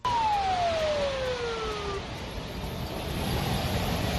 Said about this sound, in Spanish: Blindados, camiones y militares saliendo de la ciudad